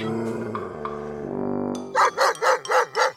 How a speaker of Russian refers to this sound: Это что за шум там такой, сержант? Да, товарищ майор, собака за котом гоняется. Откуда только взялись, непонятно.